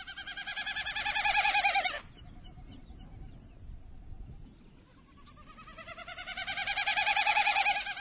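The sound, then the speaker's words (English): A male Wilson's snipe winnowing in flight, fluttering its wings to direct air over outspread tail feathers: a hollow, flute-like, rapidly pulsing hoot that swells louder, breaks off, then returns in a second rising bout, with quiet, faintly breezy air between the two passes. “The male Wilson's snipe creates a magical flute-like sound in flight, fluttering its wings to direct the flow of air over outspread tail feathers.”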